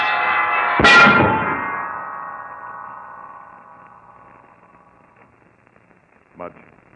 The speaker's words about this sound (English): Mudge, look out. Holmes, the center bell, the big one is falling.